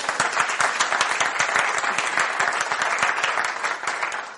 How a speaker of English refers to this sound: So that's absolutely amazing. So can we give them another round of applause?